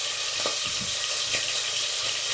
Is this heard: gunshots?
no